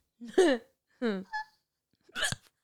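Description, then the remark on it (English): A person gives a few sharp, voiced hiccups, three abrupt bursts spaced unevenly over a couple of seconds, with short quiet gaps between them. “I'm also watching it on the thing to see how much the mic is picking up your hiccup.”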